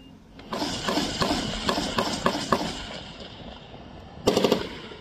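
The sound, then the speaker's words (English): Bursts of rapid machine gun fire crackle, a string of repeated shots over a noisy background, followed after a pause by another short, louder burst. “I said, you will always hear gunfire.”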